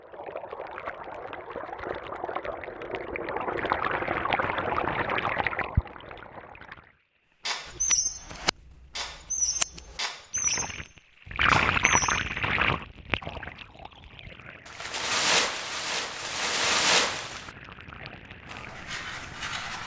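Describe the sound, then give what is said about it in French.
Wine is poured steadily, a little for each person, into cups for several seconds, a bubbling trickle, followed by a few short sparrow chirps and assorted clatter and rustling. “J'en mets un peu pour chacun.”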